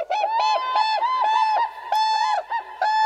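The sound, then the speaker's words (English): Loud, bugling whooping crane calls ring out in a rapid run of brassy, rising notes, broken only by brief pauses, with no talking. “Standing nearly 5 feet tall, the whooping crane is the tallest flying bird in North America.”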